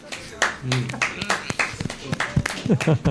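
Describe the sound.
A small audience breaks into scattered, uneven applause, sharp hand claps popping irregularly for a few seconds while voices talk over them close by.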